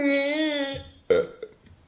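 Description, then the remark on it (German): A drawn-out, tonal burp with a steady wavering pitch, followed by a short, sharper croak and a faint trailing gurgle, a cartoonish rat burp sound effect in a video game. “Das war gar nicht so verkehrt, bis auf der komische Rattenrülpser, der am Ende kam.”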